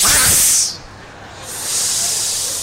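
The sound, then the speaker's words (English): A crowd of people hisses together in a loud, sustained rush of breathy noise, dips briefly, then swells again, imitating snakes. “Louder. Everyone. That's what it sounded like. But you are nice, pious people. These are envious snakes.”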